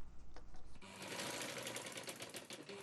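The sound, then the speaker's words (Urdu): A sewing machine runs in a steady mechanical whir in a tailor's shop in Peshawar, Pakistan, where a tailor teaches sewing to transgender (khwaja sira) people. Its rapid rhythmic stitching clatter starts after a brief quieter moment and continues without pause, with faint voices underneath. “وہ پشاور میں ٹیلرنگ کے ساتھ ساتھ گزشتہ کئی برسوں سے خواجہ سراؤں کو سلائی سکھا رہے ہیں”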